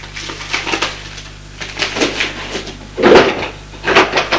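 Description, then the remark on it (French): Someone rummages through a drawer holding letters and piles of bills: wooden knocks, shuffling, and clattering objects moving around in uneven bursts, with a couple of louder thumps near the end. No voices. “Il y a aussi dans le tiroir des tas de factures, de robes, de produits de beauté.”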